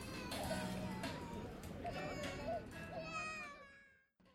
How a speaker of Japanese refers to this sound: 子供もギャンギャン泣いてます。